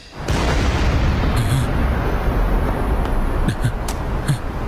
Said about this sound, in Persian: یه انفجار، چه خبر شده؟